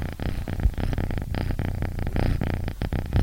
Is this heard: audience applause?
no